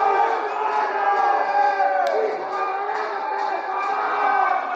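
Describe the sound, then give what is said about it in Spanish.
Prisoners locked in their cells shout and yell continuously during a fire at a prison in Valparaíso, a dense, agitated clamor of overlapping cries that stays loud and steady throughout, with no single voice standing out. “Mira la gente como grita.”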